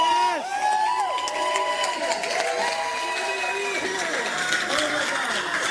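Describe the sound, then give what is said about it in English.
A crowd cheers loudly and continuously as the award for best actor is announced, with overlapping whoops and shouts, and at least one high scream, from the winner, rising above the steady roar of the audience. “Hey, that scream is him.”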